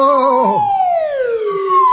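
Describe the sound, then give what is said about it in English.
A swanee slide whistle glides smoothly downward in pitch, dipping low before swooping back up at the end; one loud, continuous sliding tone with no talking. “Playing that swanny whistle gave your position away.”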